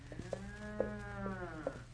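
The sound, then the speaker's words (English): A single long, low moo from an old cow, drawn out over two seconds, with a steady harmonic drone and a few faint clicks or knocks in the background. “Oh, that's just an old cow mooing.”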